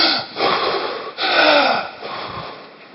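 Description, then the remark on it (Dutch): A human voice imitates the snorting of an enraged predator: several forceful, rasping breath bursts in quick succession, loud, with no words spoken. “En snuift van woede.”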